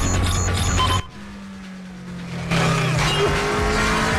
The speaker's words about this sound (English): The fleet of squad cars race up behind, and the agents in the helicopter keep an eye on Brian, who grimaces as he tries to pull out the device.